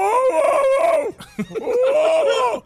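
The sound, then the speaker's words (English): A man's voice imitates a barking dog with two long, wavering, drawn-out calls, loud, separated by a short pause. “They sound more like men imitating dogs.”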